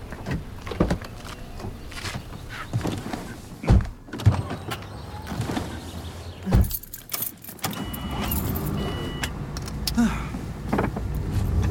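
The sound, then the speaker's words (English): People climb into a car: keys jangle, doors thump shut with a couple of solid closes, and rustling movement settles as the engine hum rises near the end. “In the car? Okay.”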